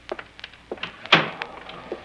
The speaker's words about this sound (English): Shut the door and sit down.